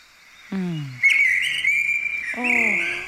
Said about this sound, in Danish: Er det en solsort, der ser sådan? Det er den mest aggressive solsort overhovedet på hele Frederiksberg. Jeg kan love dig, jeg har fået den højeste i hele byen.